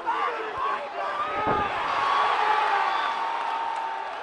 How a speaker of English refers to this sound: only to get knocked out in the first round. Listen to him hit the floor.